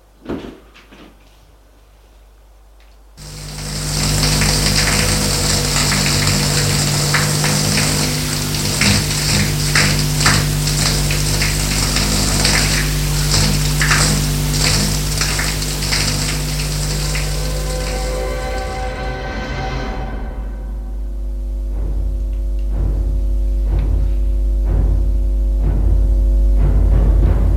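A steady rush of running shower water in a bathroom as a woman takes her shower starts abruptly after a few quiet seconds, holds loud and even for a long stretch, then cuts off, leaving a low humming drone.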